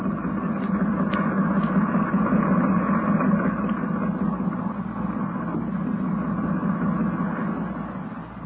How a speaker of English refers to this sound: From the sound of it, that engine needs attention.